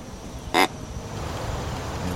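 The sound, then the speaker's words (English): A single short, loud grunt, a man imitating a young buck deer to attract a deer while sitting and listening at a crossbow hunting spot, a brief buzzy, horn-like burst standing out over a steady low background hiss that continues afterward. “He's imitating a young buck's grunts with the hopes he'll attract a deer.”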